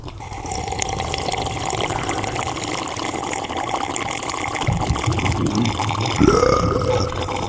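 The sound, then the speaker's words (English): Loud, drawn-out slurping of coffee, a steady wet sucking noise that lasts several seconds and ends with a rising gurgle. No one speaks. “The Coffee Slurp of the Day.”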